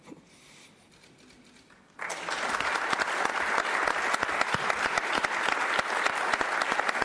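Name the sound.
audience applause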